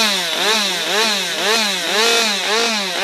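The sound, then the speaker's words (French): A chainsaw revs repeatedly up and down in a steady rhythm, loud, its engine whine rising and falling about every half second with no talking, revved as cheering at the Swiss nordic skiing championships by Damien Pelaton, director of nordic skiing at the Giron jurassien. “À la tronçonneuse, on retrouve le directeur lui-même du ski nordique au Giron jurassien, Damien Pelaton.”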